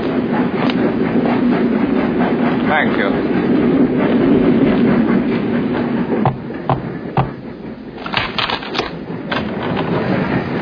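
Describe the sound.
A train rumbles steadily along the rails with a constant rattling drone, and a few sharper clacks come through near the end. A voice speaks briefly over the noise.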